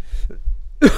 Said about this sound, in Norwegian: Helvete hvor irriterende det er å ha hoste, altså.